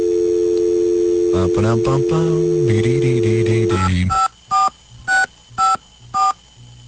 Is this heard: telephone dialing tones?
yes